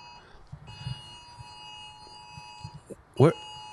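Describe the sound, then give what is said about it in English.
An iPhone emergency alert tone, a Silver Alert for a missing endangered elderly man, sounds as a steady, high electronic drone held for a few seconds, with muffled voices underneath and a brief loud vocal burst near the end. “Oh, these were iPhone alerts.”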